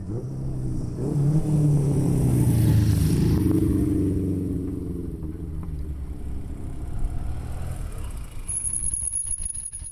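Vintage Vespa scooters race up the old Tremola road on the Gotthard Pass in a race of old motor vehicles on a windy July day, their small engines buzzing and whining upward in pitch, swelling loudly for a few seconds before easing into a steady, rougher drone. No one speaks.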